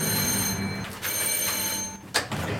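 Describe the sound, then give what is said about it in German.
A doorbell at a painter's home in Kleve rings in a steady, shrill electric tone that holds for a couple of seconds, with a brief clatter midway and a sharper knock-like burst near the end. “Also tatsächlich, die Leute klingeln bei Nane und Nane malt.”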